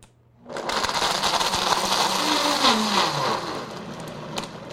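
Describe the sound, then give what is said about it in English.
A blender kicks on abruptly and roars steadily for about four seconds, its motor pitch sagging as it churns a thick, icy smoothie of orange juice, about a cup and a half of ice and lime juice. Loud and continuous, with no voices. “We're going to add about a cup and a half of ice.”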